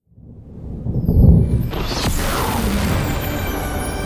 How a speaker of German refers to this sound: Es war nur eine Fingerübung für uns Hexen, so ein Gewitter. Aber für Blitze hatte ich schon immer eine Schwäche. So kraftvoll und zerstörerisch.